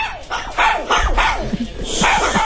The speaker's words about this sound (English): Real recordings of Jade's dogs, but by the way. They're adorable. That was at the vet. They're not always like that.